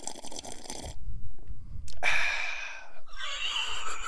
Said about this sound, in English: intimidatingly long sip.